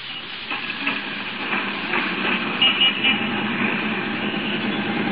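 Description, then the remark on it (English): A steady, noisy rumble of a Number 5 city bus in street traffic, heard while riding on top of the bus, a dense hiss and drone with small bumps and rattles rising briefly, with no talking throughout. “Riding home like this on top of a bus?”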